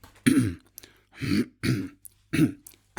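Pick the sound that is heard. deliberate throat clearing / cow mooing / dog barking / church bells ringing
deliberate throat clearing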